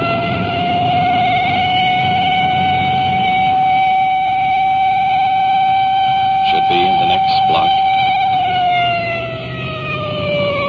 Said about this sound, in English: We'll be there in just a matter of seconds now. As we approach each intersection, that siren hits such a high peak it's almost impossible to talk.